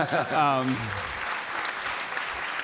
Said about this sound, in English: David Foster Wallace, I read not only that you read Infinite Jest once, but you read it twice. And that deserves a round of applause.